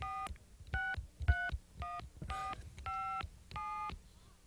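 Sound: dialing a telephone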